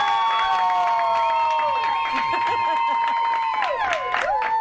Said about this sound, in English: Texans Late Night, Mark Madden on DP City. And the crowd won't be quiet. You asked for him, you got him. J.J. Watt.